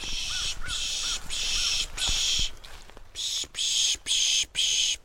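A bird gives a rhythmic series of harsh, buzzy calls, about eight in quick succession with short gaps, while faint high chirps sound underneath. The scene is outdoors on a rocky road near Pittsburgh, and no one is talking.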